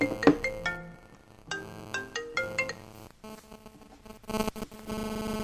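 A mobile phone ringtone plays a bright electronic melody of short repeating tones, fairly loud, with no one talking over it; the owner had forgotten to switch the phone off.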